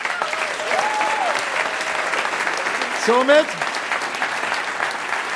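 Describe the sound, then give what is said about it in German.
Steady crowd applause for a contest winner fills the whole clip, dense and continuous, with a brief rising whoop or cheer cutting through partway in and faint tonal sounds early on. “Dein Applaus.”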